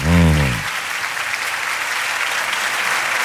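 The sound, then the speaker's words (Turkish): A large audience claps steadily, a dense, sustained wash of applause; a brief voiced sound at the very start fades as the clapping continues loudly throughout. “Teşekkür ederim ya, bu ne kadar çok alkış oldu.”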